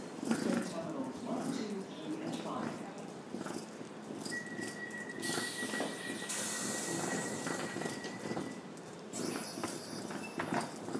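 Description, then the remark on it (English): A train idles at a railway station, a steady high whine and bursts of hissing air rising over busy platform noise, with footsteps and faint voices. “Just the fancy train.”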